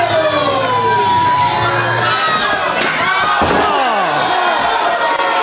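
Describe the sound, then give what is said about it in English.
A metal chair cracks down in a wrestling ring with a sharp, loud slam as a wrestler grabs the chair and hits an opponent from behind, then a second hit, over a roaring crowd and wailing, siren-like sweeping tones. “I get behind him and I grab the chair, and this happens. Oh, I hit this.”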